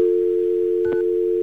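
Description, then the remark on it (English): A steady, continuous telephone dial tone hums throughout, loud, with a couple of brief keypad beeps cutting in near the end as a number is dialed. “So let's get a dial tone.”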